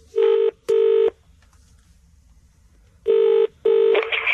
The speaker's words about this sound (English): What are you doing? Making a phone call.